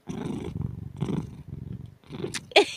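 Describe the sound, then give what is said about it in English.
A domestic cat named Bing purrs, a low rumbling hum rising and falling in steady breath cycles, with a brief higher chirp-like sound at the very end. “those are his cuddly noises. He's a very vocal cat, but also only purrs when he's very happy or wants food.”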